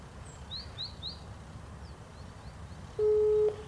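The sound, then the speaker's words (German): Faint birds chirp and twitter over a low background hum, then near the end a single loud electronic telephone ring sounds as a steady, buzzy half-second tone. “Ging das Telefon?”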